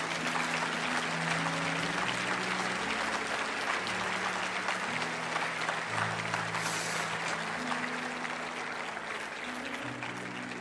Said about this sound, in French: Je veux qu'on les applaudisse ce matin, ce sont des héros.